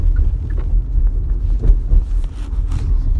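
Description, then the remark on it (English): Steady low-frequency road rumble from inside a car driving through rush-hour traffic, with faint wind noise and occasional soft thumps layered over the constant drone. “That's just the hazards of when you podcast and drive, and that's pretty much been the thing of, what I do is when I drive through traffic rush hour, I podcast.”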